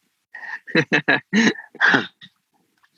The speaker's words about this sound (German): Da bellt sogar der Hund im Hintergrund, ja? Da bellt der Hund. Bekräftigt.